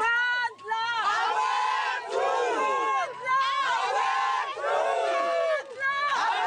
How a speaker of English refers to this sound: Emotional marchers screamed, cried, chanted, and sang as they moved down the road. Park visitors stood by staring.